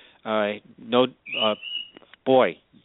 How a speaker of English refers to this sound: and now my bird's going to go wild here in the background.